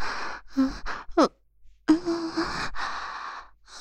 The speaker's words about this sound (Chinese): 小坏蛋，这样对着阿姨喘气，是在诱惑我吗？